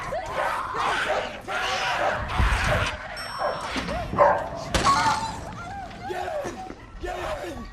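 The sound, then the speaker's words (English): A dog barks and snarls repeatedly and loudly amid crashing and breaking noises, with agitated voices in the background, as a man swings a hammer at it. “Jake swings his hammer at the dog and they race in.”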